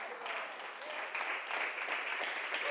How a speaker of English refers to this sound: Oh, you need to clap a little bit harder.